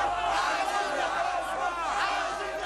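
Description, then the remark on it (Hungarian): A large protest crowd in Cairo's Tahrir Square, Egypt, cheers and chants in a dense, continuous roar, many voices shouting together with rising swells of excitement, loud throughout, celebrating the end of Mubarak's three-decade rule with shouts of "Egypt is free". “Egyiptom szabad, kiáltásokkal ünneplik örömmáborban a tüntetők a három évtizedes Mubarak uralom végét szert az arab országban.”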